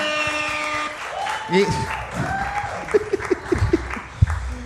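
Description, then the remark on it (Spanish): Steady clapping from a crowd for a comedian fills the background, fairly loud and continuous, with voices calling out over it and a few sharper claps or thumps near the end. “Gente, fuerte aplauso para mi hermano Eggy.”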